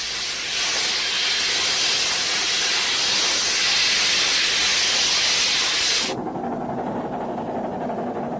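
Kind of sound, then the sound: vehicle, steam locomotive hissing steam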